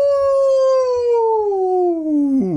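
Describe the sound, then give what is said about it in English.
A person imitates a single long, mournful human howl, loud, its pitch sliding slowly downward for over two seconds before dipping sharply at the end, with no other sounds around it. “A long, mournful howl. A human howl.”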